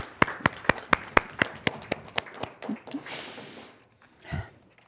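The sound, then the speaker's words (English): Applause from the audience starts as about a dozen sharp, evenly spaced claps in a steady rhythm, then breaks into a softer, scattered wash of noise before trailing off. “I want to applaud you guys.”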